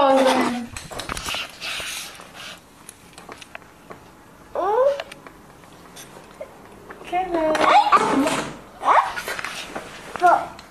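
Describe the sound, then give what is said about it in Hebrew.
A dog whimpers and gives a few short, high yips in scattered bursts, with people talking in between and over the sounds. “אתה אמרת, אופ, את הפלת את הכלב?”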